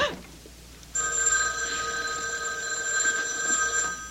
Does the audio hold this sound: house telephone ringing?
yes